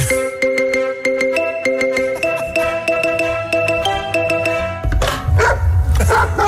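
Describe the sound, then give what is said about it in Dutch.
A big dog barks repeatedly and loudly, short sharp yaps in quick succession over a steady tonal background, ending in a rougher, noisier burst of barking. “je spreekt even met Martin, de grootste hondenvriend van Nederland. Wacht even, houd je bakkes op de grote dan.”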